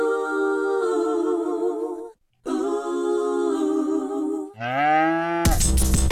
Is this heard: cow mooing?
yes